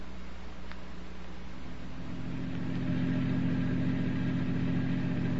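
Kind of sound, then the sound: vehicle, car engine running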